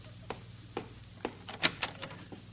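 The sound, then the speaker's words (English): A door to a doctor's waiting room opening: a quick run of sharp latch clicks and wooden knocks at uneven intervals, moderately loud over a low steady hum, with no one speaking. “Open the door, will you, to the waiting room?”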